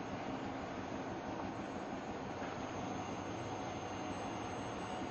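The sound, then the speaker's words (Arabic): Industrial weaving looms, weaving fabric for part of the Airbus A380 aircraft at one square metre per minute, run steadily, a dense, loud mechanical clatter and whir that fills the space without pause and carries a fast, churning rhythm. No voices are heard. “تعمل هذه الآلات بجد ونشاط وتستطيع نسج متر مربع من القماش في دقيقة واحدة، وهذه السرعة ضرورية لأن عملاق الأجواء يحتاج إلى كميات هائلة من هذا النسيج المتميز.”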